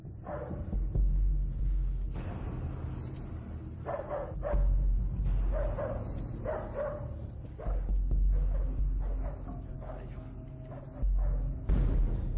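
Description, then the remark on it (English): A dog barks repeatedly in loud bursts, mixed with yips and whimpering, over a steady low rumble, with voices audible in the background. “Release the dog on her.”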